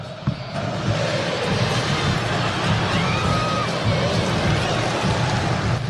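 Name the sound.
stadium crowd cheering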